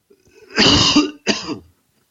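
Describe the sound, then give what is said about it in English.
A wet, phlegmy cough in two bursts, the first longer and rougher, the second shorter, with no talking. “First, here's a wet cough.”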